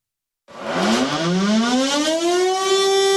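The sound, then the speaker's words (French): A loud civil defense alert siren in the local department sounds for a scheduled noon test; it starts abruptly and winds up, its wailing tone rising steadily in pitch and holding strong to the end, with no voices present. “Et puis, pas de panique, hein, si vous entendez ou si vous avez entendu les sirènes d'alerte aujourd'hui dans le département.”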